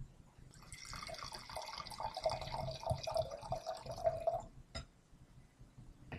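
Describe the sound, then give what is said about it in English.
Wine pours steadily into a glass as it is refilled, for about four seconds, a gurgling stream whose pitch climbs as the glass fills, then stops abruptly with a faint clink; fairly loud, no voices. “Yeah, no, I got my glass refilled. That worked perfect.”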